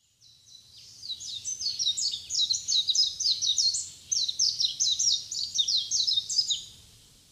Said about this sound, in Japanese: ヒバリです。